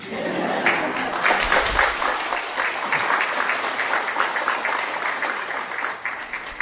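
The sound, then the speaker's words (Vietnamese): Steady applause from an audience, a dense patter of many hands clapping at a fairly even loudness throughout, with no voices standing out above it. “À, nói cái vụ vỗ tay nữa.”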